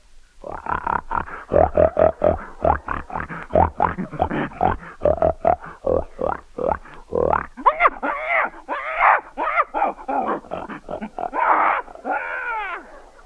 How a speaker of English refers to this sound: A pig.